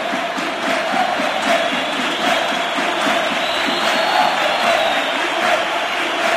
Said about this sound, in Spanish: La división. No solo aplaude Gol Norte, aplaude... Muchos pitos. Esto se va a acabar, se acabó. El aplauso es porque Lopetegui sabe que se va.